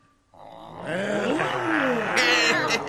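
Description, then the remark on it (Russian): A group of children roar together in imitation of lions and tigers, a loud, sustained chorus of overlapping growling voices with shifting pitch that swells after a brief quiet start. “А рычать, как львы и тигры, можете?”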